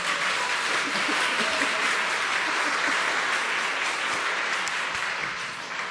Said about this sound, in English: How many people are still awake from last night? Nice! Give those people a round of applause.